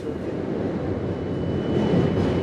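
A train departing a station in eastern Poland, boarded by refugees from the war in Ukraine: a steady low rumble of rolling rail cars that swells slightly louder toward the end, with no voices.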